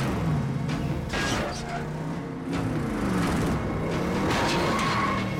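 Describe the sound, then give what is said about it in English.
A black SUV with headlights on full beam roars as it speeds up and repeatedly rams another car, trying to run it off the road, with heavy thuds and scraping bursts over a dense, continuous rumble of road noise and tyre screech. “It repeatedly shunts Nathan's car, trying to run it off the road.”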